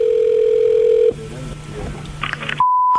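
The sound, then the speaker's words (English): A recorded prank telephone call connecting: a steady low ringing tone over a phone line, a brief murmur of line noise with a few quick beeps, then a higher, piercing steady tone to the end. “This is one of the funniest phone calls ever.”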